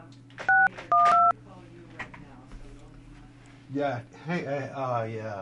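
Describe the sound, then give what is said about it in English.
Two short, loud telephone keypad tones beep in quick succession near the start as someone dials to reach a person by phone, followed by a steady hum and then voices talking. “Yeah, we're trying to get her on the phone right now.”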